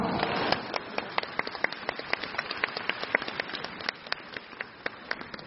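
An audience breaks into applause: a dense, steady patter of many hands clapping, with sharp individual claps standing out, continuing at even strength before easing slightly toward the end. No one speaks.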